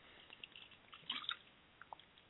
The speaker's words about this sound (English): Take 5 seconds. I got to take a drink of water here.